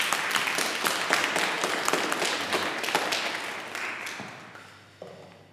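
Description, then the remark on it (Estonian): An audience applauds steadily, a dense wash of many hands clapping at once, holding strong before gradually thinning and fading out near the end. “siis ma tahaks küll, et teeks ühe suure aplausi teile.”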